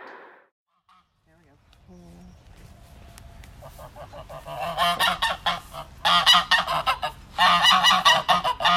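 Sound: geese honking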